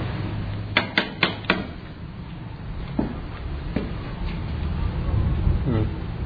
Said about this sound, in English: There's no way of getting in here. I'll knock on the door and see if anyone's in.